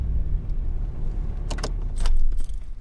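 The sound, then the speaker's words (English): The diesel engine of a vehicle arriving at a coastal dune area by the ocean runs with a steady, loud low rumble throughout, while bursts of bright metallic jingling, like keys, rattle over it twice toward the end. No one speaks. “Sorry, the diesel. It's probably kind of loud on your...”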